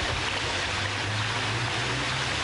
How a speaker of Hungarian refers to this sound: Szinte folyóként hömpölyög a megáradt Kondoros Debrecenben.